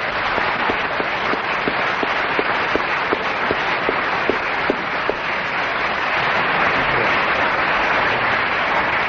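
round of applause

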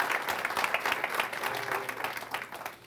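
applause

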